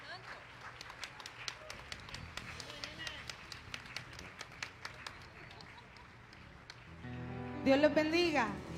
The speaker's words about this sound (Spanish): Bueno, mientras se acerca a adorar, yo voy a pedirle un fuerte aplauso para el Señor para que reciban a